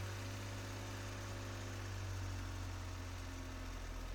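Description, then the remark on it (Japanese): A car engine hums steadily, a deep low-pitched drone with faint vibration as the car begins to pull away from a parking lot; no one speaks. “こうやって俺の車に乗るの初めてだな。”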